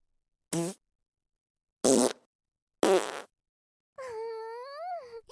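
Three short, sharp fart bursts spaced about a second apart, then a longer, squeaky, high-pitched fart that wavers in tone before trailing off. Moderately loud, with no talking.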